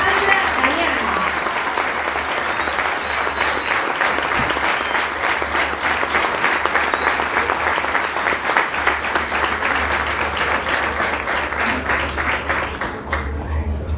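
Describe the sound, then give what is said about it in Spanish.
A crowd applauds steadily and loudly, a dense wash of many hands clapping that holds throughout before easing slightly at the end, with faint voices mixed in. “¡Fuerte los aplausos!”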